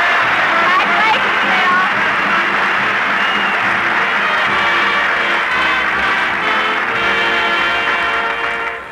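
studio audience applauding

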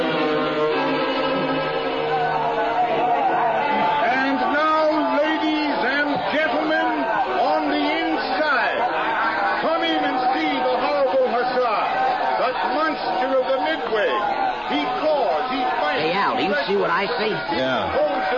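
crowd chatter

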